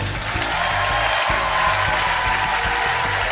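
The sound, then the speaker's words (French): Steady applause from a concert audience at a live France Musique broadcast from the Carreau du Temple, a dense wash of many hands clapping at once that holds at an even, fairly loud level throughout, with no voices over it. “Mais c'est trop, mais moi aussi je pourrais vous applaudir.”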